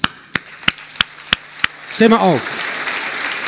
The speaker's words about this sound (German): Applaus.